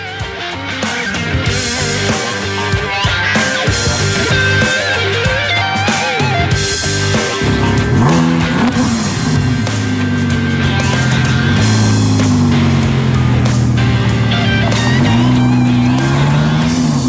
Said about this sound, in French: Et au cœur de cette voiture, il y a un moteur assez extraordinaire quand même. 10 cylindres V10, 5 litres 2. Il est entièrement atmosphérique, il n'y a pas de turbo, il n'y a pas d'assistance électrique ni d'hybridation.